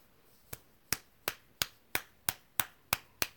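A quick series of eight sharp, crisp slaps in a steady, even rhythm, the first one softer and the rest loud and snappy, with no voices.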